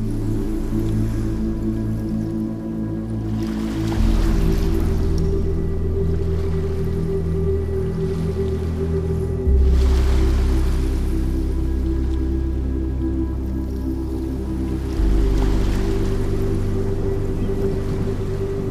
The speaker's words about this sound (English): As you listen to my voice and the music, you will become even more relaxed. And you will notice the waves coming in and out.